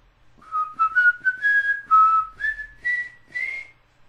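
A person whistles a short, rising melody of several sustained notes, clear, with brief pauses between phrases and faint background rumble.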